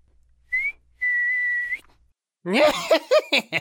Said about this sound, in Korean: 아빠가 요술을 알려줄게. 날씨가 좋을 때 아빠가 나무 밑에서 휘파람을 불면 바람이 분단다.